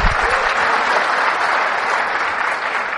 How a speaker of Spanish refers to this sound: nos perdimos con el aplauso, nos perdimos la parte más importante, y es lo que sigue diciendo Jesús.